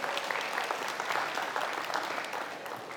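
An audience claps steadily for a few seconds, a dense, even patter of many hands at moderate loudness that tapers slightly toward the end, with no voices over it.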